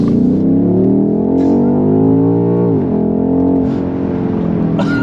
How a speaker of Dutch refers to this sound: Ik rijd niet te hard, want je mag hier 80. Ja. Ja, dat accelereer gewoon.